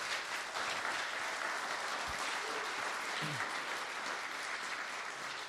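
An audience claps steadily, a dense, even wash of many hands that holds the same loudness throughout, with no voices breaking through.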